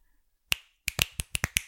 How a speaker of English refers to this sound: Oh, damn. That is really loud. Look at this. Look how big your waves get, babe. I told you I can snap really loud.